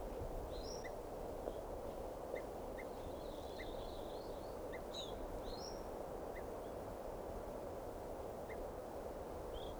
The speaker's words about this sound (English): I'm walking over to where that tooping bird is. I think alarm calls now. There's a whole bunch of birds here.